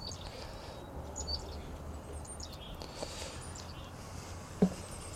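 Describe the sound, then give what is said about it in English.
Chickadees chirp faintly, a scattering of short, high calls over a low outdoor rumble, with one brief soft thump near the end. “Yeah, that's those little chickadees.”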